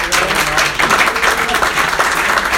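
A crowd breaks into steady, sustained applause, many hands clapping at once in a dense, even roar that stays loud and close throughout.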